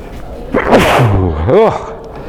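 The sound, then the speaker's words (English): A single loud sneeze during a recorded group discussion: a sharp, breathy burst with a voiced edge, followed moments later by a short rising-and-falling vocal sound. “The good news is I've got this recorder on, so the people who didn't turn up and listen to the recording have now got sneezes.”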